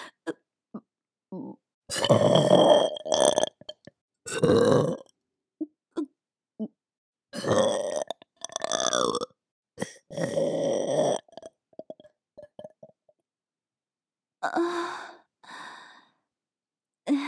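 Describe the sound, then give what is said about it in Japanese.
Several loud burps come in separate bursts after swallowing semen, with short breathy exhales and sighing sounds scattered between them and no talking. “またザーメンゲップしちゃいました。”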